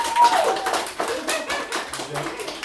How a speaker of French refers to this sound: Messieurs, dames, si vous êtes pour la Saint-Valentin, je vais vous demander d'applaudir maintenant.